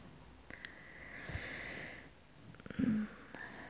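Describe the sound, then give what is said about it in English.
Slow, soft breathing: a long airy inhale followed by a gentle exhale, with faint rustling and a small nasal sniff near the end. No voices. “Listen to my heartbeat and my breathing and the sound of my voice.”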